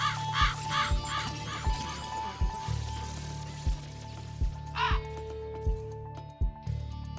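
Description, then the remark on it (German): Harsh raven caws, a quick burst of three or four at the start and another pair later, ring out over a steady thumping electronic beat and a held synth tone. “Rabe Info.”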